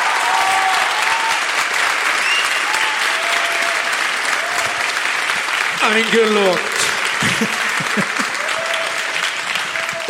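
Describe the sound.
A studio audience claps loudly and steadily throughout, a dense, even wash of applause for the first of three questions they must choose between, a question about Mallorca, with a single voice briefly speaking over it partway through.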